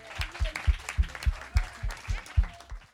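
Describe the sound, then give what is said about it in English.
An audience claps together in a steady, even rhythm, roughly eight firm claps over a few seconds, with a faint wash of crowd noise underneath and no clear speech, applauding performers who have just sung a song. “Let's clap for them again.”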